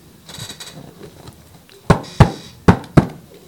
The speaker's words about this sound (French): Et quand le jour se leva, ils atteignirent la maison paternelle. Ils frappèrent à la porte.